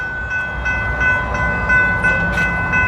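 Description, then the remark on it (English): A train rolls past, a loud continuous rumble with steady, high metallic whining tones riding on top and faint periodic clatter, with no voices. “Oh, here comes the train, actually. There's one actually coming.”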